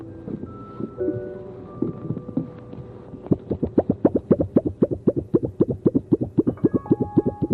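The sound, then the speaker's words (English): A brush rubs against a plain piece of board to mimic water, starting with loose, irregular swishes and then settling into a steady run of quick, evenly spaced scratchy strokes, with no talking. “Sound like water?”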